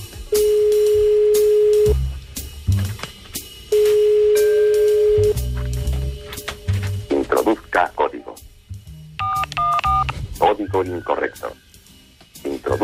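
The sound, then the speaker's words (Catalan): Steady telephone call tones sound in two long pulses when calling a phone in Volví, followed by a recorded automated voice prompt asking to enter a security code and a short burst of keypad beeps, all heard clearly over a phone line. “Que tu truques amb telèfon i has de marcar un código. Código de seguridad.”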